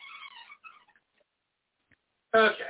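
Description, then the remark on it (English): A cat meows a couple of times at moderate volume, falls quiet for over a second, then lets out a sudden, louder meow, wanting to be let out. “You hear the cat, the one it in, now it wants out.”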